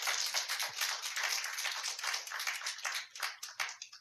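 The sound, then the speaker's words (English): A crowd applauds a youth group steadily for about four seconds, a dense, crackling wash of many hands clapping at once with no voices over it, fading slightly toward the end. “Everybody give them a hand clap.”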